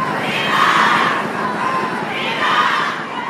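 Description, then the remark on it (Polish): A large outdoor crowd in the streets of Rome cheers loudly in enthusiasm after a beatification, the roar swelling in two broad waves like a rhythmic chant, dense and continuous with no single voice standing out. “Tymczasem na ulicach Rzymu zapanował pobeatyfikacyjny entuzjazm.”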